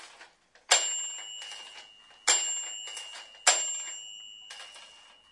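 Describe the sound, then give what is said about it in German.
An elevator arrival chime in a parking garage rings three times, each bright ding striking sharply and ringing out before the next, evenly spaced about a second and a half apart, clear with no talking. “Klingeln tut er auch.”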